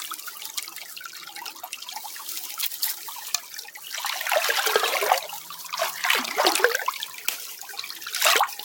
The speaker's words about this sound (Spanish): Este es el sonido del arroyo.